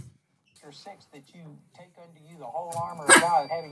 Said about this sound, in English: That dog barking is pissing me off.